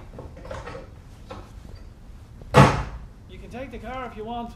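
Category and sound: household object, door slammed shut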